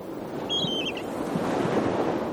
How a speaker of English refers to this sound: Sea, cold, noisy, loud crashes, bangs where the water hits the rock, the loud cries of the birds.